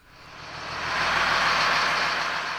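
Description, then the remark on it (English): A heavy school bus engine rumbles, its broad roar swelling over the first second and then holding steady as the bus pulls to the side of the road about 10 miles south of town. No one speaks. “Back on the bus, we pull to the side of the road about 10 miles south of town.”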